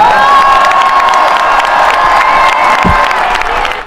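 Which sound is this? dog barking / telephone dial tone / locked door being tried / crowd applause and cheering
crowd applause and cheering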